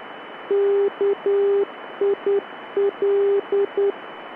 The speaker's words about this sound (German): Das Rufzeichen des NDB auf dem Flugplatz Kiel-Holtenau auf der Frequenz 353 kHz lautet zum Beispiel KIL. Hier ein Mitschnitt dieser Barke.